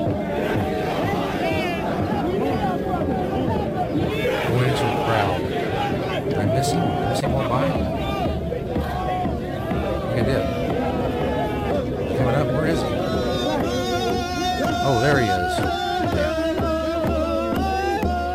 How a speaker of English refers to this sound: Screaming, he's beating this drum. And he puts himself in the middle. He injects himself into this crowd of high school kids while they're doing their chanting for their high school. CCH, Covington Catholic High School.